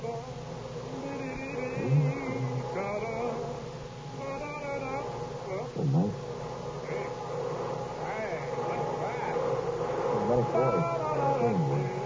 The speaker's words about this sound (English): Here comes the vacuum cleaning man. He hasn't been in for quite a while, has he? And the floor shows it, too, doesn't it? Sure does.